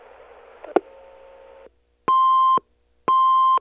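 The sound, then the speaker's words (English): A soft hiss of line noise with a brief click, then silence, followed by two identical electronic answering machine beeps, each about half a second long, loud and steady-pitched, evenly spaced. “Can't come to the phone right now. You know what to do after the beep.”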